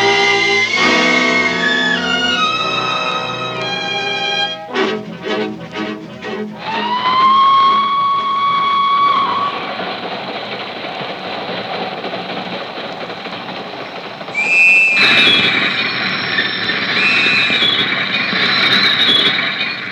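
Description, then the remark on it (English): A loud train whistle sounds over the steady roar and rattle of a passing express, followed by wheels squealing high and sharp as the train brakes to a halt at an unscheduled stop, in the radio drama Night Train. “This is not a scheduled stop for the express.”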